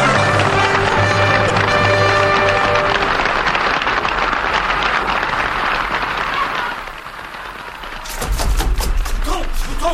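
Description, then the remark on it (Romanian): Loud, dense applause from a crowd at a royal performance, with the king applauding, clapping continuously over a sustained musical tone at first, dipping briefly before swelling again with sharper, heavier claps near the end. “Vino pe scenă, regele aplaudă.”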